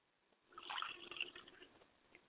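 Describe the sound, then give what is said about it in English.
Water is poured as a libation in a steady, soft splashing stream lasting under two seconds, fairly quiet, with no voices. “I pour libation to the east.”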